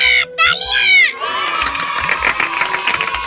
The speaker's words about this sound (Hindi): हमारे सबसे अच्छे मॉनिटर दोस्त … के लिए जोरदार तालियां।